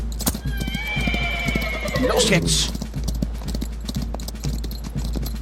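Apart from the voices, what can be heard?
horse galloping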